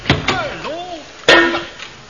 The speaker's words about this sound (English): don't you hit me with a hammer again. It wasn't a hammer, it was a shovel.